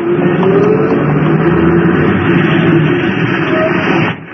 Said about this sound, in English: I hurried across the street just as a bus pulled up and took on a passenger. A little old lady wearing a little hat. I reached the stop as the bus was pulling away.